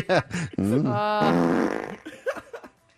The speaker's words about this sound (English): no one is reported for accidentally letting one go, but they added that the man was uncooperative and provocatively farted at them during an encounter.